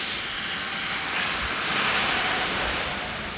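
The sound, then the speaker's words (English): A garbage truck in a harbor gives off a loud, steady rush of hissing noise over a low engine rumble, swelling slightly midway and then easing off. No one speaks. “Garbage truck.”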